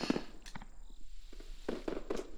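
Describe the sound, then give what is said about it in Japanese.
Several muffled fireworks bursts pop irregularly, a quick cluster of thuds and crackles at a modest volume with no one speaking. “花火の音が大きいからどんなにあえいでも平気なんだよね”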